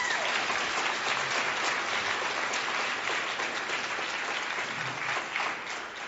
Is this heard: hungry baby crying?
no